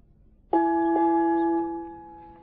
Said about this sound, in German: Was soll das bedeuten? Es gongt zum Abendessen. Schon wieder? Wir haben doch heute schon gegessen.